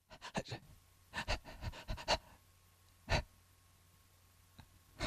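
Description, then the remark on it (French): Quick, heavy panting breaths come in a fast burst, then slow to a few separated gasping exhales with quiet pauses between. “La respiration s'accélère.”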